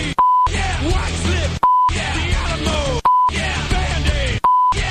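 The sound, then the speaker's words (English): Short, loud electronic beeps at a steady mid pitch repeat about every second and a half, four in total, each cutting into a dense, busy stretch of music or noise that fills the gaps. “The beeps are literally are hurting my ears.”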